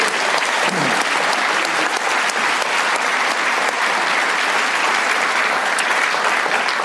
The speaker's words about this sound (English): Can we give him a round of applause, please?